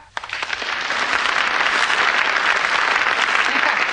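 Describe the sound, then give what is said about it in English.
A burst of audience applause greets Mr. Reggie's entrance on stage, swelling quickly and holding steady, many hands clapping in a dense, continuous, loud patter. “Reggie, I thought it must be you by the round of applause you always get when you come in.”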